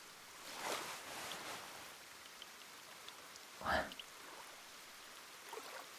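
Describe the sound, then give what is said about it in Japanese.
Rain falls steadily in a soft, even hiss that fills the background, broken by a couple of brief, slightly louder sounds. “雨の中で一人ぼっちは、寂しいよね。”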